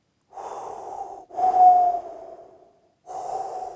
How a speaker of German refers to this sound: Also der Atem der Mutter, bum bum bum bum, bum bum bum bum, bum bum bum bum.